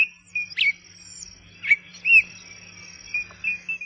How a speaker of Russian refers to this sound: Заманчивые и необычные голоса птиц в джунглях Восточной Африки. Турака, сорокопуты, бородатки. Восхитительный мир пернатых.